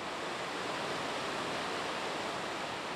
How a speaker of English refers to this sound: You're hearing water rushing over the Maple River Dam, which holds back nearly 43 acres of water in Lake Kathleen. The dam is about 18 feet high and in rough shape.